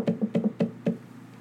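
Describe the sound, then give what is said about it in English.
Six knocks on a wooden chamber door in a quick, uneven rhythm, dull and resonant, with a brief pause before the last one; no voices. “Rapping on my chamber rapping door. Rapping on my chamber door.”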